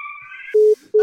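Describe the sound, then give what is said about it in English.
The lunchtime alarm of a jam factory in Tiptree, Essex, heard by most of the village, sounds alone: a steady high electronic tone, then two louder, lower-pitched blaring pulses separated by a short gap. “the jam factory in Tiptree has a lunchtime alarm that most of the village can hear.”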